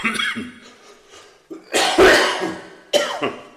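A series of several harsh coughs from one person, with the loudest, longest cough in the middle and a sharper one near the end, with no talking.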